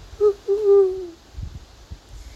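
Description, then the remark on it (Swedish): Two soft, high-pitched hoots from an eagle's nest, a short one followed by a longer drawn-out note, like a small owl chick calling, with low rumbling background noise underneath. “hörde Jan ett svagt pip komma ifrån örnens bo. Det kanske ett riktigt pipigt hoho, om man lyssnade riktigt noga.”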